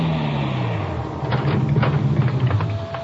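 A car engine hums and its pitch sinks as the vehicle slows and pulls up in front of Mola's bookshop, stopping, with a steady hiss of rain underneath and a few soft clunks near the end.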